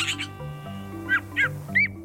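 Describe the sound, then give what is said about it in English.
A Canada jay gives three short, clear whistled calls, evenly spaced in the second half, each with a quick rise and fall in pitch, over a soft steady low musical drone. “The very first bird you might see is a Canada jay as it boldly swoops down into your camp.”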